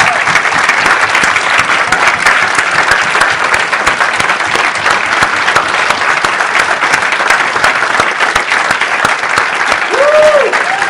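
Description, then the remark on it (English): Loud, sustained applause from a large audience for standing military veterans on Veterans Day, a dense steady clatter of many hands clapping without pause, with faint crowd murmur underneath. “And so we just want to get the vets to stand and applaud them and thank you for serving our country.”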